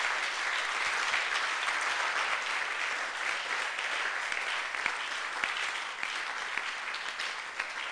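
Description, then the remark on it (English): An audience claps to God steadily, a dense wash of many hands applauding at an even, sustained level for several seconds, with no voices standing out. “If you have been blessed by the word, why don't you clap to God?”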